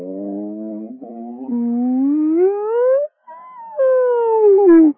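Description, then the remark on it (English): A human voice does a frequency sweep that sounds like a dog howling, sliding slowly upward in pitch in long, sustained tones with a brief break, then dipping down again at the end. “Oh, here comes the doggy again.”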